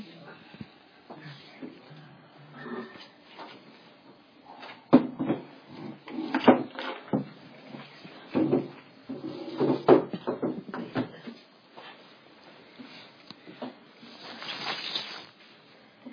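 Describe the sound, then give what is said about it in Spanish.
Another wooden chair is shifted and set into place, with a series of scraping drags and hollow knocks spread over several seconds, while people talk softly in the background. “Ponemos otra silla.”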